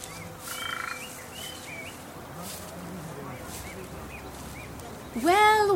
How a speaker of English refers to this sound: They are found in the Hyrkanian woodlands and agricultural lands of the Alborz Mountains, Golestan National Park, Jahannama Protected Area. What makes this miniature deer so special is that upon feeling danger, it makes a bizarre sound.